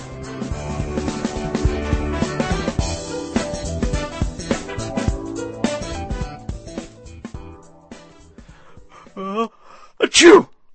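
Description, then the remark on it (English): A stretch of busy music fades, then a quick breathy intake leads into one loud sneeze at the very end. “Oh, God bless you, ….”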